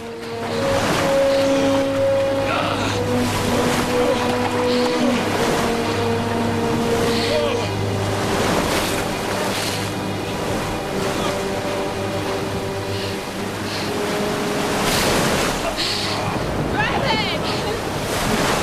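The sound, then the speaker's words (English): Rough sea waves churn and crash continuously at night, with broad surging washes and heavy wind buffeting the microphone, plus a low engine-like drone and tonal hum running underneath. “They battle to keep their heads above the increasing waves as she takes off her life jacket and pushes it towards him.”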